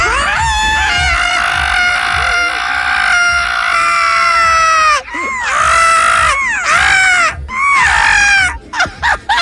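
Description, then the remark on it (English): Several people loudly imitate a monkey's mating call together with shrill, sustained screeching cries. A long continuous wail gives way to shorter, wavering shrieks separated by brief pauses, intense. “If you were that animal, the monkey, right? What would your mating call sound like?”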